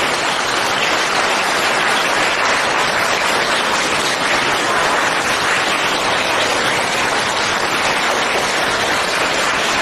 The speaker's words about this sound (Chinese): 现在让我们用最热烈的掌声恭请我们尊敬的卢军宏台长为我们慈悲开示。